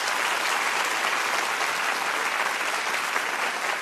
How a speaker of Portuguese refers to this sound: Nosso colunista de ciência, Stephen Hay, pode aplaudir.